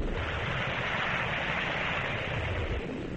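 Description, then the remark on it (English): Effervescent Sal Hepatica laxative salts fizz in a glass of water, a dense, steady crackling hiss that holds evenly throughout, with no voices. “And that's the sparkling sound of sal hepatica in a glass of water.”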